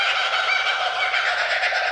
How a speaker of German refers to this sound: Also klingt, als würden sie sich komplett beömmeln. Es ist tatsächlich, also ein zweiter ist im Hintergrund, aber das Laute ist ein Vogel, der das macht. Hört sich an wie gackernde Affen. Mhm. Ist ein australischer Vogel